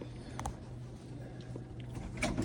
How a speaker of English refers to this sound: And then we knock pretty hard.